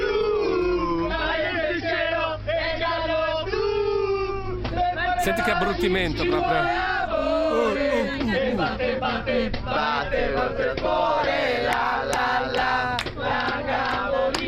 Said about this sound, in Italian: Questo era un esempio di coro da tifosi, ce ne sono tantissimi altri.